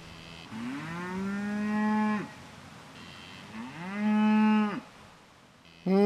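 Beau Rivock breed cattle in County Longford, Ireland, mooing: two long, low, drawn-out moos, each rising at the start and then holding steady, with a third moo just beginning at the end. No voices are heard.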